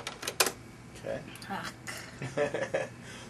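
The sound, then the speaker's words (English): Someone types a password on a computer keyboard to log in: short bursts of sharp key clicks in an uneven rhythm, with brief pauses between keystrokes. “So I'm going to log in.”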